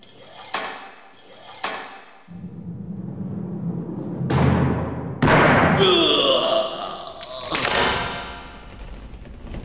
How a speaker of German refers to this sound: Mach die Tür auf, Chico.